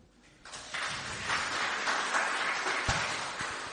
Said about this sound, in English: There. Thank you very much. Round of applause.